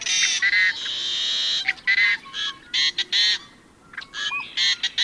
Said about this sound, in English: Equally arresting are the raucous growls, wails, and whistles of another western bird, the yellow-headed blackbird.